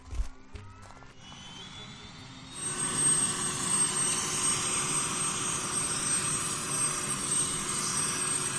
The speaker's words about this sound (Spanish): se ponen de rodillas frente al helicóptero que arranca motores.